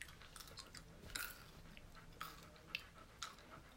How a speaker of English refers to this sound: I'm definitely chewing these Skittles like a cow. I apologize, winos. Definitely apologize. I'm definitely chewing.